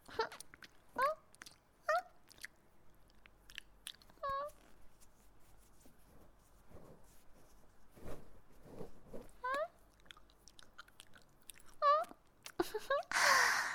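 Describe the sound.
Wet mouth-licking sounds, a person pretending to be a cat licking someone's face clean, repeat in an irregular rhythm, broken up by a few short meows from a voice imitating a cat, all intimate and fairly quiet.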